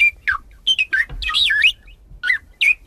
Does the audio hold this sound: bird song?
yes